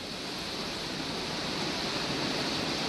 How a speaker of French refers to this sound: Alors voici maintenant la pluie torrentielle.